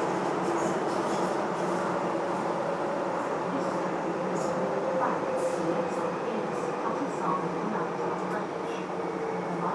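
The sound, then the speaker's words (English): A train carriage rumbles steadily along the rails, a loud, continuous roar with a faint tonal whine running through it and indistinct voices murmuring underneath. “Put one hand back on the rail because these trains are quite wobbly.”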